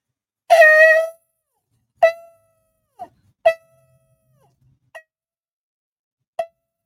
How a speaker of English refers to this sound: The Bible says, blow the trumpet, sound the alarm.